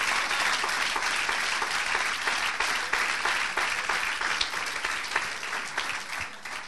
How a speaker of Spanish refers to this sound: Oye, si le va a dar el aplauso, dáselo, por Dios.